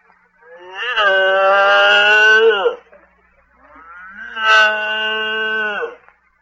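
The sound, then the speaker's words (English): Two long, drawn-out moos from Hildegard, a milk cow, each lasting over two seconds, with a short pause between. Both are loud, harmonically rich and fairly high-pitched, sliding up at the start and dropping off at the end. “I think this cow loves me.”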